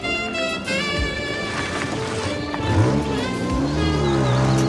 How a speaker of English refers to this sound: A red car splashes through puddles on a country lane.